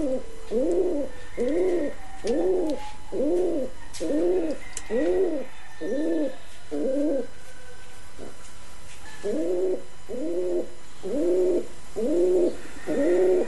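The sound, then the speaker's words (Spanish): A pigeon coos in a steady series of soft, low, rounded calls, pausing briefly midway before resuming the same rhythmic cooing. Fairly clear, with faint background ambience and no talking. “Era una paloma.”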